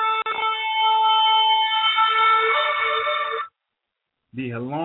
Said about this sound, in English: We're gonna get some more shofar blast back in, you know, later on in the show